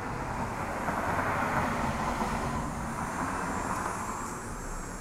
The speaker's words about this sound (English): I'm going to be using, for many of them, what's often called a contact microphone, in that you have to have the microphone touching the thing that you're recording before it will actually pick it up. Sound of a car going by.